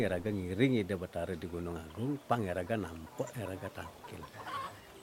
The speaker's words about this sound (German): Hühner rennen durch den Staub.